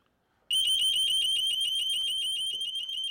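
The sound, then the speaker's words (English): A door intruder alarm fitted on a side door, triggered when a contact is broken, goes off suddenly after a brief silence, blaring a loud, high-pitched electronic tone that warbles rapidly and continues without pause to the end. “I've also put alarms on the side doors, so if anyone tries to gain access, as soon as it breaks a contact, as you'll find out, it's a loud noise.”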